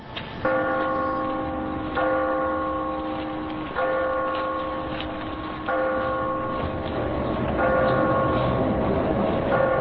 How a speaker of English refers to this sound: It was a bright, cold day in April, and the clocks were striking 13.